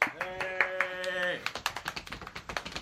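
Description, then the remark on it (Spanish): One person, the single invited guest, clapping in a quick, steady rhythm of sharp, light claps, which begin as a sustained tonal sound cuts off partway through. “El único invitado aplaude, pone en el guión.”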